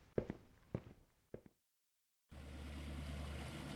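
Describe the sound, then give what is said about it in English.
A few sharp footsteps, a brief silence, then a steady wash of water noise under a low engine rumble begins: a small boat ride over waves among the old ships of a fleet's floating museum, loud. “A boat ride through the fleet's floating museum?”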